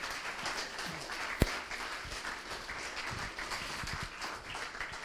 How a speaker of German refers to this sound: Einmal einen kräftigen Applaus.